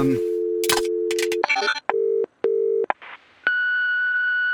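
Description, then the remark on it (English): A steady dial tone and quick dialing bursts from a phone booth give way to two short, clear telephone ringback tones with brief pauses between, ending in a higher sustained electronic tone as the line connects to the Amelia Project; no talking. “This phone call isn't happening.”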